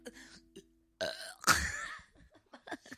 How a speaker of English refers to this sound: Can you burp on cue?